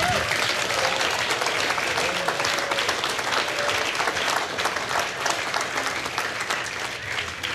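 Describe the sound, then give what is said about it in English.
A large audience claps steadily for several seconds, a dense, continuous wash of applause that stays loud throughout and eases off only slightly toward the end. “You can give him a round of applause if he pulled you out.”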